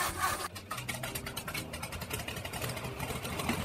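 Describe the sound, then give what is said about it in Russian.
A seaplane engine roars loudly to life, a dense, rattling mechanical drone that holds steady throughout with rapid pulsing in its texture and no voices. “Кое-как устроившись в кресле, он нажал кнопку «Винт», и мотор гидроплана взревел.”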